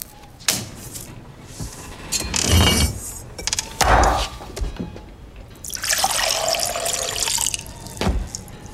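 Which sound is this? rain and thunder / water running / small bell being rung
water running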